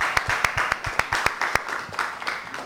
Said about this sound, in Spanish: Si por lo menos le doy un aplauso a mi madre, me daría gratificación. Le damos un aplauso a su madre, venga.